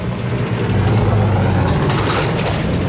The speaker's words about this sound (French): C'est que dans cette région, on va laisser passer cette voiture.